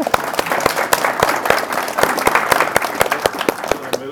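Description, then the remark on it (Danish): A small group claps steadily for a few seconds to welcome an arriving guest, sharp individual claps standing out over a dense patter of applause, fairly loud, with no talking. “Kan vi ikke lige klappe”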